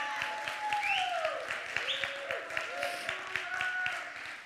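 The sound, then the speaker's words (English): An audience gives a hand clap of praise, many hands clapping steadily for several seconds in a dense, enthusiastic burst, with sustained keyboard-like tones and faint voices sounding underneath. “Give yourself a hand clap of praise.”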